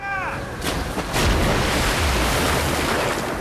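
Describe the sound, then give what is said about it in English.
A ship's anchor is dropped and plunges into the ocean with a loud splash and a deep low thump, followed by churning, rushing water that continues steadily. A brief falling tonal whine comes just before. “The anchor drops into the ocean with a splash.”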